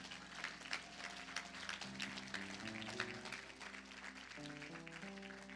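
An audience claps steadily for several seconds, a dense patter of many hands, while sustained keyboard or organ chords play underneath and shift pitch.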